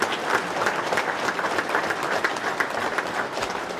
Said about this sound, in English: Can we get a round of applause for their volunteers?